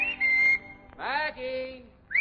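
A man whistles a call close by: a steady high note, a brief pause, then a sliding, wavering phrase, and a final rising note that starts just as the sound cuts off.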